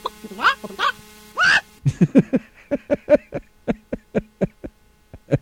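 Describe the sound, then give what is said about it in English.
A chicken lets out a few loud, rising squawks, then settles into a steady run of about fourteen sharp, evenly spaced clucks, like a hen's cackle while laying an egg. “That chicken sounded like it was having trouble laying that egg.”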